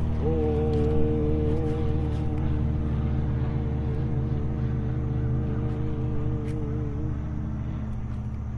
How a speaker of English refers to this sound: You see how we start to expand our consciousness to take in the whole thing, and then we have the ohm of the plane.